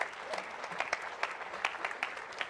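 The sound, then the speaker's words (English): After a prayer, an audience breaks into steady applause for the Lord, many hands clapping at once in a dense, continuous patter with no voices over it, moderately loud throughout the short burst. “Give the Lord a hand clap, would you, Pastor?”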